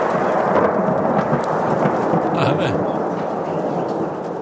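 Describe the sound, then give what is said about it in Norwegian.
Loud, continuous thunder rumbles through a heavy thunderstorm in Førde, with dense rain hiss filling the background throughout and a faint voice briefly audible. “Heftig torvær i Førde.”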